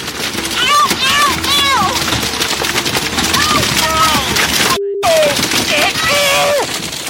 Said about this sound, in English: Here's a little sound of a motorboat encountering a big bunch of Asian carp.